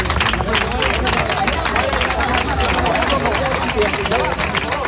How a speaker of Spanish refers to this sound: Entre aplausos y al grito de valiente ha sido recibida la líder moral de la oposición en Venezuela y premio Nobel de la Paz, María Corina Machado, que visita España durante 48 horas